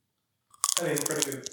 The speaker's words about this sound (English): Yes, listeners, one thing you don't know is we have chocolate-covered pretzels here in the studio. So if you hear any extra crunching, that's what's going on.